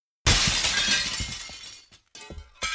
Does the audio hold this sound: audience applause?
no